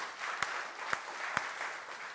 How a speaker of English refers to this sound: so give yourself a big round of applause. Good job, everybody.